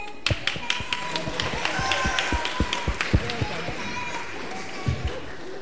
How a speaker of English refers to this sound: Is anybody else standing up? Big clap for the winner. Big clap for the winner.